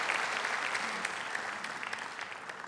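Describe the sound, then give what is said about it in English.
A crowd applauds steadily for a man who has come forward, a dense wash of clapping with scattered sharper claps standing out, holding a fairly even level for a few seconds with no voices heard. “Just give him a good round of applause and just thank you, Jesus.”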